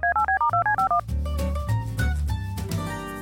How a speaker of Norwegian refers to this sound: Vi tar en telefon, kanskje? Vi ringer.